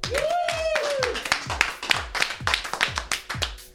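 Steady rhythmic clapping from a small studio audience welcoming a harpist singer-songwriter guest, sharp claps in an even beat, with a brief rising-and-falling whoop near the start.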